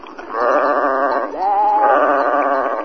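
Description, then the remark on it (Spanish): A goat bleats loudly in one long, quavering cry lasting nearly three seconds, its pitch wavering and briefly shifting partway through, with no one talking. “¿Y puedo hablar yo con la cabra? Por supuesto, hable usted un momentito con ella.”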